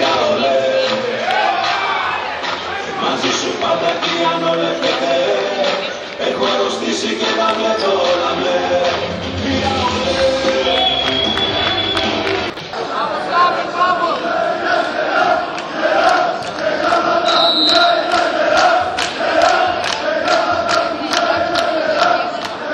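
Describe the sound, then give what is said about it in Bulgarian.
A packed arena crowd at a match roars and shouts continuously, voicing its opinion on the referees' calls for every point, with rhythmic chanting rising through the din and a brief dip in volume midway before the loud, dense noise surges back. “Публиката, подобно на българските фенове, не остава длъжна на съдиите и има свое мнение за всяка една точка.”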